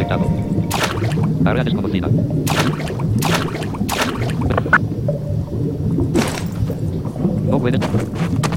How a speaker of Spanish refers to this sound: Y bueno, aquí tenemos el agua. Escuchen cómo bucea. Voy a pulsar el avance de página. Estamos en el agua.